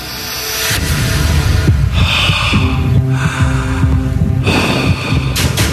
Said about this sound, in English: Very heavy breathe. I don't know what I'm listening to. Well, you're listening to a reenactment of a... 911 call. Guy's obviously out of breath making the phone call. He's been running. He's been booking.